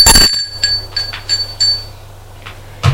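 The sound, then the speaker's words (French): A doorbell rings with a sharp opening burst, then a series of bright, metallic tones repeating unevenly and fading out, over a low steady hum. Nobody speaks. “Il entend que l'on sonne à la porte.”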